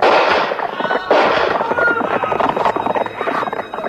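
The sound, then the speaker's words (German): Two loud, sharp shots crack out about a second apart, each followed by a long, noisy tail of echo and rumble that fills the rest of the moment. “Zwei Schüsse peitschten auf.”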